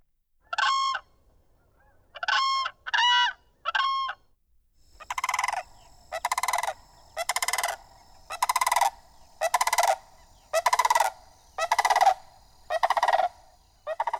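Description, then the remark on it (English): Four clear, bugling whooping crane calls in two pairs, followed by a steady run of about eight harsher, rolling sandhill crane calls, loud with no voices. “So that first one was the whooping crane, and the second was the sandhill crane.”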